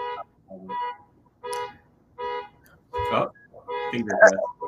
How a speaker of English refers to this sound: I'm sorry. I live in like an urban type of environment. So someone else's car going off I'm so sorry.